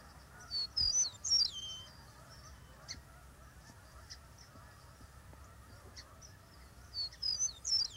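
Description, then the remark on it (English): A meadowlark's clear, flute-like whistled song rings out over open fields and meadows in two bright, slurred phrases, one near the start and another at the end, over a quiet outdoor background with soft scattered calls. “From our open fields and meadows comes flute-like notes that tell us that a meadowlark is there.”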